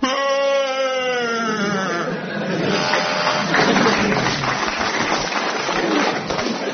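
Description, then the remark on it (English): A person does an impression of Chewbacca from Star Wars: a wavering, bleat-like howl for about two seconds, then a loud, rough, breathy growl that rumbles on to the end. “And for a bonus point, who can do an impression of Chewbacca from Star Wars?”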